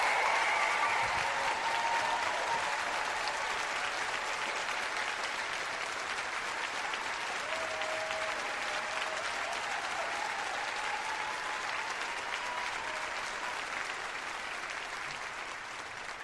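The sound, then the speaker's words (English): A crowd in the Bay Area applauds Barbara Lee steadily for about sixteen seconds, a dense, even wash of clapping that stays loud throughout, with a few faint cheers and whistles mixed in early on. “Please give a warm Pod Save America applause to Barbara Lee.”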